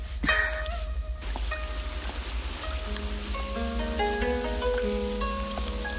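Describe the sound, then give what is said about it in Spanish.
Steady rain falls with a soft, continuous hiss at night in a lonely park, while sustained musical tones and a gentle melody play over it. No one speaks. “Los amantes pasean bajo la lluvia protegidos por una sombrilla de varillas de madera.”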